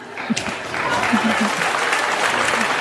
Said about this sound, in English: I love how they applaud that.